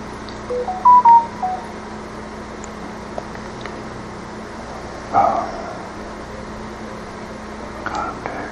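A quick run of telephone keypad dialing tones on an Android phone while trying to make a call, short beeps clustered together, then a couple more isolated tones later, all over a steady low background hum.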